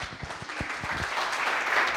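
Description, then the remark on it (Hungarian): An audience at a lecture on nanomaterials applauds to welcome the speaker, a dense spread of many hands clapping at a steady, fairly loud level throughout, with a few sharper individual claps standing out early on and no voices. “Egy tapssal köszönhetjük őt.”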